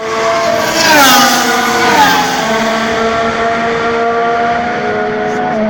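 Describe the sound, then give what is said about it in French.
Several race car engines roar and rev loudly together at the start of a W Series race, an all-female championship, at Hockenheim, Germany; their high whining pitches climb and shift as they accelerate off the line, then settle into a sustained howl. “Mesdames et messieurs, démarrez vos moteurs, c'est un départ!”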